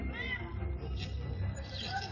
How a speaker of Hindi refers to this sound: अरे वो बिल्ली है, कोई बब्बर शेर नहीं।